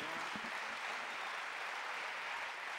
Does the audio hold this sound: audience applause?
yes